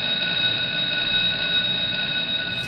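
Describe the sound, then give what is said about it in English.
A bell rings continuously for a few seconds, a bright, steady, shrill metallic tone with no pauses and no voices over it, marking the end of the Pardon the Gadfly segment. “Kate, yeah, it looks a little upset at that bell.”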